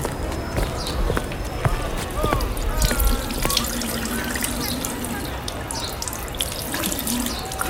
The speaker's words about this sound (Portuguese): O velho ali molhou as mãos para o sabão escorregar bem.